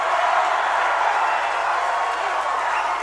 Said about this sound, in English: They're shouting, lock her up, lock her up.